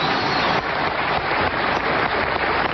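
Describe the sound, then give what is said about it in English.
A burst of dense, continuous applause, many hands clapping together in a steady, even roar for about three seconds, with no voices over it. “Hey, you deserve Obama a little clapping here.”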